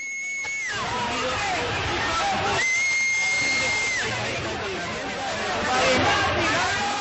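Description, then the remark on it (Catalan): A large crowd roars with loud, sustained jeering, sharp whistles cutting through in long steady blasts over the dense wall of voices, building slightly toward the end. “Per tant, i després de les darreres dades, gran esbroncada.”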